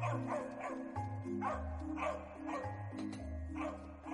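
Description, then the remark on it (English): A dog barks repeatedly in short, lively bursts, several yaps at a quick, uneven pace, heard clearly over a steady low musical background with no one talking. “Dogs. Cats. We open up this pet shop somewhere opening, and we see Puppy Bolt.”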